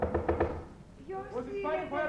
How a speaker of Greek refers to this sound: Στο βάθος ξεχωρίζουν τρία σκαλοπάτια και μια πόρτα. Θα χτυπήσω, θα παρακαλέσω. Ανοίξτε. Για το Θεό, ανοίξτε.